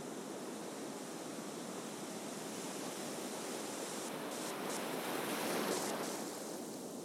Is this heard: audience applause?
no